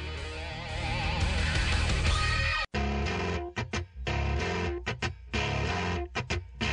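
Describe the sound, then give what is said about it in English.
Loud, harsh static noise fills the whole stretch, steady and dense at first, then turning choppy with abrupt cut-outs and stuttering bursts. No one speaks over it. “I'm not sure what this static is, but Matt's playing it.”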